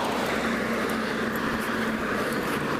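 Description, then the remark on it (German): A bus drives past outside, its engine drone and road noise holding a constant, fairly loud level throughout, with a low hum underneath and no voices. “Ah, also der Bus wäre sogar gefahren.”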